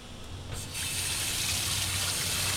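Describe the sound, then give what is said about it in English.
A kitchen tap runs steadily with cold water, the broad hiss growing fuller after a brief start as a cut red onion is rinsed beneath the continuous stream. “So what I like to do is just to cut my onion and then rinse it under cold water, and that takes some of the harshness out.”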